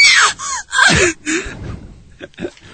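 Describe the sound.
A voice imitates ghostly moaning in a few loud, breathy bursts with wavering, sliding pitch, then trails off into softer, quieter sighs.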